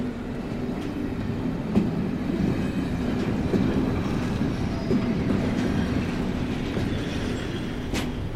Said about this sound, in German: Nur noch wenige Menschen steigen aus den Zügen.